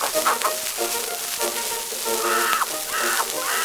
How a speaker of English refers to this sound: Oh, Jimmy, look at the cage full of chattering, mischievous monkeys.